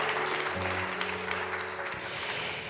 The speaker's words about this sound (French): Peut-être qu'on peut commencer par les applaudir chaleureusement. On a beaucoup de chance de les avoir avec nous.